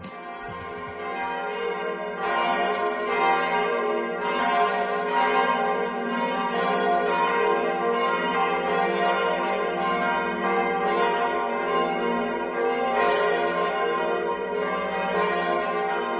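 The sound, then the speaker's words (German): The four bells of the Catholic parish church St. Theresia in Ziegelhausen, hung in a glass pyramid above the choir, peal together on a Sunday morning in a dense, continuous overlapping ring, loud and sustained throughout, with no voices present. “Das sind die Glocken der katholischen Pfarrkirche St. Theresia in Ziegelhausen.”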